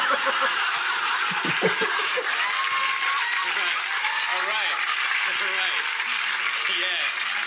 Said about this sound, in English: My mom loves those applause breaks.